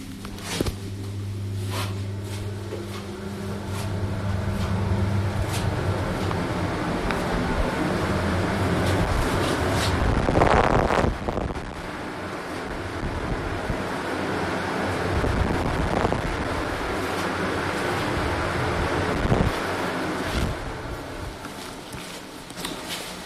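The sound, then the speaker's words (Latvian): Powerful air jets blow in a steady, loud rush from a cleanroom air shower that people pass through to enter the cleanroom, with a low mechanical hum underneath and brief surges in force partway through. “Tagad, lai mēs tiktu iekšā, mums būs jāiet cauri gaiša dušai.”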